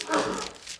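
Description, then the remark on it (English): A single sharp sneeze bursts out, loud at first and trailing off into a breathy hiss within a second. “Bless you, brother.”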